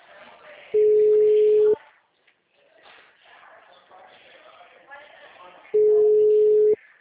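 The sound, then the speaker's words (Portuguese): Two loud, steady telephone busy-signal tones, each about a second long and spaced several seconds apart, cut through continuous talking in the background. “Eu tô ouvindo o telefone. Grave seu recado agora. O número está ocupado.”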